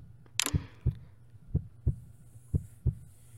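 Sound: heartbeat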